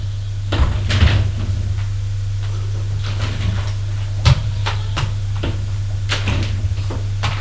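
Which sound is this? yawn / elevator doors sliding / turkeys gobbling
elevator doors sliding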